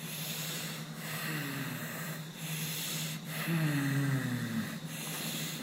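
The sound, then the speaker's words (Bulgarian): Deep, fairly rapid, smooth, free breaths drawn in and out, repeating about every second or so over a low, steady hum, with no talking; a deep breathing exercise lasting about a minute or two. “Плавно, но дълбоко и доста бързичко.”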